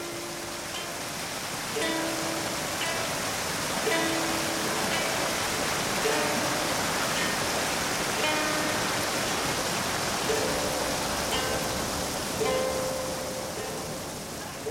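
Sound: waterfall rushing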